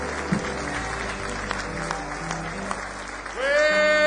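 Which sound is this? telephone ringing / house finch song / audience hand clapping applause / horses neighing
audience hand clapping applause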